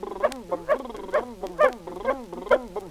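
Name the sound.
puppy barking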